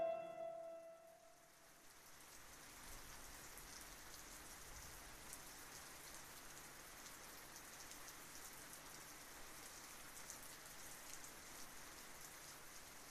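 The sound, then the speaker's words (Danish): Heavy rain pours down steadily on Wednesday 13 September in the worst weather, a dense, continuous hiss of drops drumming on a surface that fills the whole scene after a brief tonal sound fades in the first second. “september, og det regner helt sindssygt, og det er det værste vejr.”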